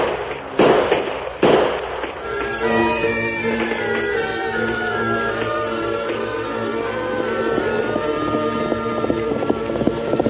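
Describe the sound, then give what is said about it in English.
Two loud, sharp gunshots, fired in an attack on a wagon train, crack out about a second apart, then give way to a steady layer of sustained, tonal music that carries on to the end with no voices. “We'll keep shooting till the water's gone, then we'll get them for sure.”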